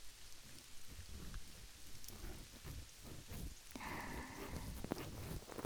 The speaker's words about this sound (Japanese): 辛い思い出も悲しいことも雨が洗い流してくれる。